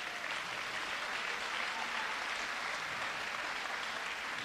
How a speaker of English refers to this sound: Yes, give a clap for Jesus, come on. Joo, taputukset Herralle.